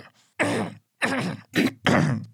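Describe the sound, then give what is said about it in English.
A person clears their throat and coughs several times, a faint rasp followed by four loud, gravelly bursts with brief pauses between them. “Now I cough.”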